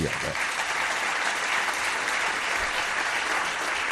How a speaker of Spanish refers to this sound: Pues un aplauso para este señor.